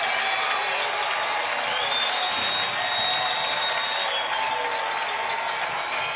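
A stadium crowd at a Vikings football game, urged to stand up and cheer, cheers in a steady, continuous roar for about six seconds, a dense wash of many voices with no single speaker standing out and no real rise or fall.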